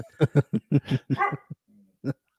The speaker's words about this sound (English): That dog needs some wine, you know, so it'll shut the fuck up. Hate that thing. I hate your dog.